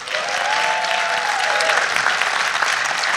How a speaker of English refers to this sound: And since then, if you are or know someone involved with Gene Garino, let's hear some applause.